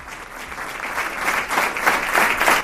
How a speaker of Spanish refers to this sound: Es el emotivo aplauso con el que se cerraba el acto de homenaje a Inés Sánchez, la voluntaria de Protección Civil que el pasado 4 de enero perdía la vida en un accidente de tráfico en León. Hoy el Ayuntamiento ha querido tributarle un homenaje